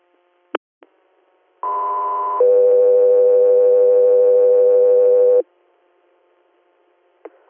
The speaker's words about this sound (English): Guthrie here, stand by for tones.